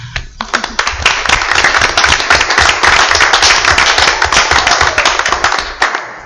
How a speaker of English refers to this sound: And after the rest of the council, I just wanted us to all give Officer Garcia a round of applause.